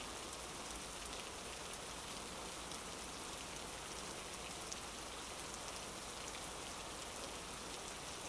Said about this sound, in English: Even if it's your dumb idea to stand outside in the pouring rain like you're the protagonist in some melodramatic anime.